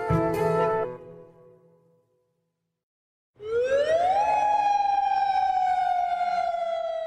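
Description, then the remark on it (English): A loud air-raid siren sounding the daily 7 p.m. lockdown curfew in Jordan, the same alarm used in case of war, winds up from a low pitch into a sustained, steady wail that holds without pause, preceded by a brief burst of another loud sound that fades into silence. “Every day at 7 p.m., we hear the sound of the sirens. This is the same alarm that would be used in case of war.”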